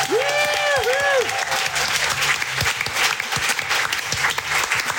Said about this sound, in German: einen riesen großen Applaus für Seenluft24.